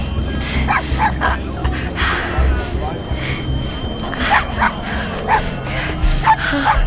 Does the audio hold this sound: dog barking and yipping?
yes